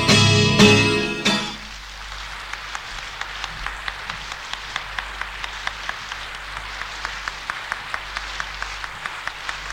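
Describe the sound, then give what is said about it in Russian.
A sung note and music cut off in the first two seconds, then the audience at the Vostok club applauds after the song with steady, evenly spaced claps, moderately faint, continuing to the end without any voices. “Родные мои востоковцы, я очень вам благодарен за то, что вы так меня сегодня принимаете. Уж кто-кто, а я знаю цену аплодисментов клуба «Восток», поверьте мне.”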